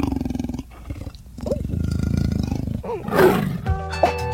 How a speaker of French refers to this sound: J'ai l'impression que c'est un léopard qui rugit.